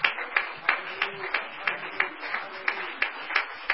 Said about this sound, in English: Thank you, Jesus. And why don't we give the Lord a hand clap of praise and thanksgiving in advance right now.